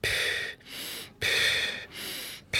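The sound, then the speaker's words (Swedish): Loud, deliberate labor breathing demonstrated in a steady rhythm: sharp inhales through the nose alternating with softer puffed-out exhales, about two full cycles, with no talking. “Alltså man drar in genom näsan och så pustar man ut.”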